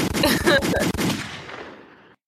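sound effect, gunshot sound effects

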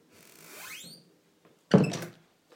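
household object, door being opened

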